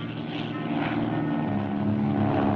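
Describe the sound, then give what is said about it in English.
A propeller airplane engine roars steadily at full power, a loud droning hum with a buzzing harmonic tone, continuous as the plane takes off when it is nearly dark and climbs as fast as it can. “I took the plane up, and I climbed her as fast as she would take it.”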